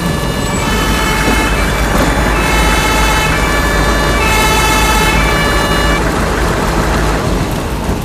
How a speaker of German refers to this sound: Da! Ich höre die Feuerwehr!